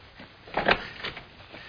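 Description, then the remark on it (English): The door to a study is opened with a brief wooden clunk and rattle, followed by a softer knock a moment later, with no one speaking. “I'll take him into the study. Open the door.”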